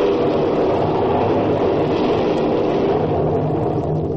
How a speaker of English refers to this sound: Professor, that is thunder. Don't make so much noise about it.